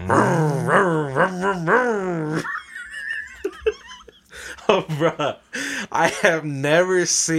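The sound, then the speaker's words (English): A voice imitates the revving chainsaw of the chainsaw man at a haunted house, with loud, buzzy bursts that repeatedly rise and fall in pitch, breaks off briefly, then returns in a string of shorter, wavering revs. “And the last part, little did you know, there's a chainsaw man. And and you don't really see him. All you start hearing is the...”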